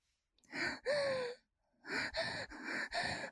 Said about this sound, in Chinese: 面对即将来临的高潮，姐姐的动作加大，喘息声越来越急促。